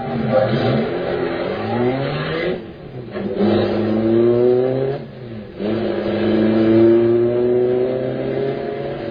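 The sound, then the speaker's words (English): A car engine revs hard and accelerates through rising gear shifts, with brief drops in pitch between gears as it speeds off, heading for a vault, loud throughout with no voices. “Okay, step on it. Head for the vault.”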